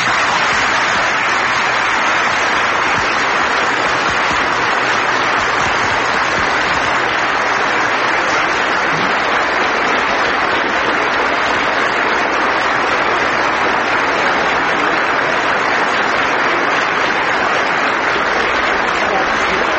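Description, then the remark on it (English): A large audience at the World Affairs Council in Springfield, Massachusetts applauds enthusiastically after President Reagan's remarks, a dense, steady roar of clapping that stays loud and unbroken for about twenty seconds with no talking over it. “As you can hear, a very enthusiastic reception to the President's remarks at the World Affairs Council in Springfield, Massachusetts.”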